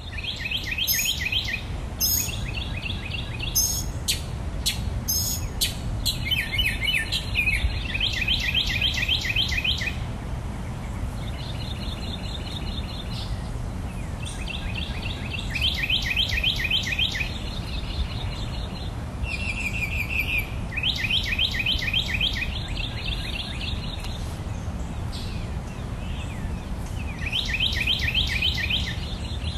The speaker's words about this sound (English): Birds recorded during an early morning on Lafayette Street in Old Mandeville, Louisiana, last month.